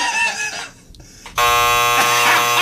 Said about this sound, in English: The first double buzzer.